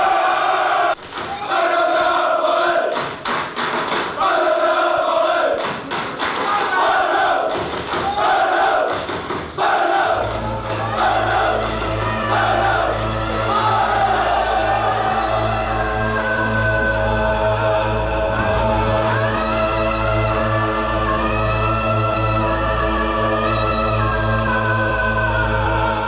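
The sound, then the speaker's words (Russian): A loud crowd of football fans roars and chants in rhythmic, surging bursts, then a deep sustained drone joins beneath the massed voices as the shouting carries on. “Настоящий фанат футбола – это особый стиль жизни, особая татуировка и прическа, желательно бритая голова и идеология скинхедов, агрессия и тайные ритуалы, ненависть к чужакам и сходки с диким ревом.”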